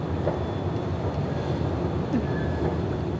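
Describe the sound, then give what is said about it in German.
Empty escalators at S-Bahnhof Friedrichstraße, running from the shopping arcade to the platform in the early afternoon, give a steady mechanical rumble, while thin, high whistling tones and brief squeaks drift in and out over the continuous hum. No one speaks. “Das einzige Geräusch, das am S-Bahnhof Friedrichstraße am frühen Nachmittag zu hören ist, ist das Pfeifen und Quietschen der Rolltreppen, die leer von der Einkaufspassage bis zum Bahnsteig fahren.”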